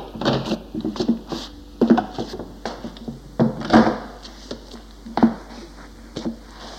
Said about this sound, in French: Il me mena à l'étage, frappa une porte et me fit entrer.